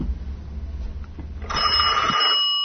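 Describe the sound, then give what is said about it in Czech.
A telephone rings with a bright, buzzing trill for about a second, fairly loud, preceded by a low muffled rumble with no one speaking. “Poslušat ćemo se telefonom i čuti još neki mladi svet koji se u sredu vrati u školu.”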